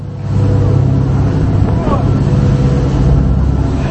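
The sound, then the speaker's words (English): The engine of a Ukrainian coastal patrol boat out in high seas on the very rough Sea of Azov drones loudly and steadily, its low throb running the whole way through under a constant wash of rushing wind and water noise. “But we gained rare access to a Ukrainian coastal patrol setting out in high seas to challenge what they say is Russia's illegal naval cordon, something Moscow rejects.”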